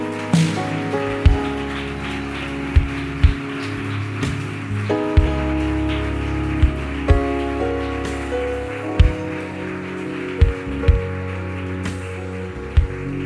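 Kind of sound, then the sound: crowd, audience applauding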